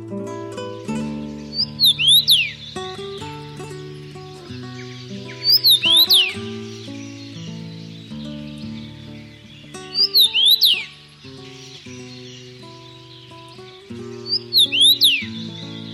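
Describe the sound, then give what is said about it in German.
A common rosefinch sings four short, clear whistled phrases, spaced evenly a few seconds apart, over a steady background of soft instrumental music. “Das war der Kamingimpel.”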